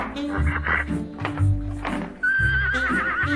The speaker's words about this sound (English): Were you just Skyping with a horse? Not a horse, Lemon. Rafalka, Mitt Romney's champion dressage mare.